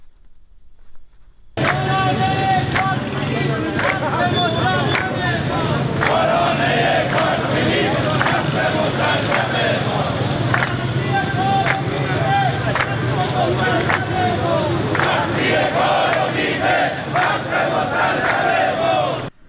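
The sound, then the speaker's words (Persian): A large crowd of protesting Tehran bus drivers chants slogans in unison, a loud, sustained roar of many voices that starts abruptly after a short silence and keeps a steady, rhythmic intensity throughout. “آنها شعار می‌دادند تا حقتو ندادن استارت نزن راننده.”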